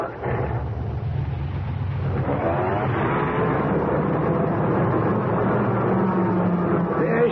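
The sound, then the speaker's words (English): A car engine rumbles steadily as the vehicle is backed out of a shop, a loud, continuous low drone whose tone shifts slightly partway through as the engine works. “Let me back it out the shop.”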